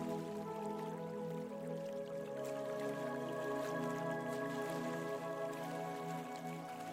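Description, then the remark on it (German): Gentle water splashing and trickling steadily at a low, even level throughout, blended with a soft sustained tonal drone of background music. No one speaks. “Das angenehme Plätschern des Wassers beruhigt dich automatisch.”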